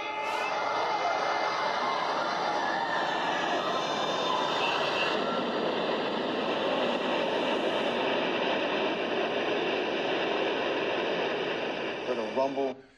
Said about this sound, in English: All right, so this is the buildings coming down on 9/11. Watch how they come down. It's very strange. The North Tower came crashing down.